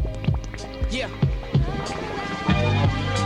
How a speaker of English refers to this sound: you know what that sound like? Feel the heartbeat. Feel the heartbeat.